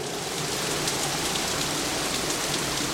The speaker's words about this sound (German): Der Regen ging so schnell, wie er kam.